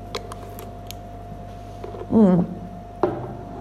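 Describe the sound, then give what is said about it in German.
Someone takes a quick sip of water: faint clinks of handling, a short gulp with a voiced, throaty swallow, then a soft exhale afterward. “Ich muss mal wieder einen Schluck Wasser nehmen, das macht mich so irre.”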